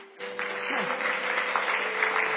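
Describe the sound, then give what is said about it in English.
An audience at a Christmas sermon at Christchurch breaks into steady, sustained applause after a brief quiet moment, the dense clapping holding at an even level to the end over a faint, constant low hum. “Can anyone clap for this?”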